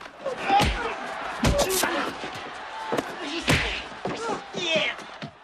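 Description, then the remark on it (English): Several hard, sharp punching impacts land at irregular intervals, loud, mixed with grunts and scuffling voices as bikers punch henchmen on a balcony during a chaotic fight. “his bikers punch each of the henchmen.”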